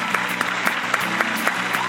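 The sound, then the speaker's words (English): A crowd applauds steadily throughout, a dense wash of clapping with a faintly rhythmic pulse of sharper claps standing out. It sounds full, with no one speaking. “Big round of applause.”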